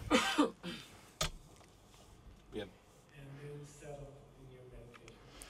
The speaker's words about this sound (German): Wenn ihr husten müsst oder euch räuspern, macht es jetzt.